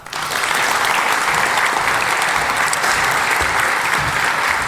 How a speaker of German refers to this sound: Herzlichen Applaus für Anne.